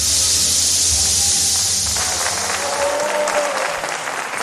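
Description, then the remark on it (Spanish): A theatre audience at the lottery draw in the Teatro Real applauds steadily, a dense, sustained wash of many hands clapping at once, loud, with a few faint tonal whistles or cheers rising above it. “Es una tradición que se había roto por culpa de la pandemia y que por fin, pues oye, ha permitido que los aplausos vuelvan a estar presentes en el sorteo.”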